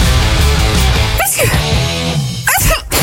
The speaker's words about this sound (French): mais à chaque fois que j'éternue, j'ai des guitares qui me suivent.